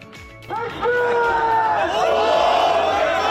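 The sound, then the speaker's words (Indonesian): Thousands of pro-Palestinian demonstrators in the streets of central Istanbul, Turkey, on Sunday, demanding Israel stop the war in Gaza, burst into loud, sustained shouting after a brief quieter start, many voices rising together in a continuous, chant-like roar that holds steady to the end. “Ribuan warga pro-Palestina berdemonstrasi di jalan-jalan pusat kota Istanbul hari Minggu menuntut Israel menghentikan perang di jalur Gaza.”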